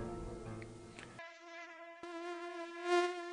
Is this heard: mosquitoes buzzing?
yes